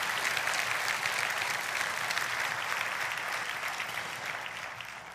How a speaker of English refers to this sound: Come on, give God a hand clap. Can have a good amen for that.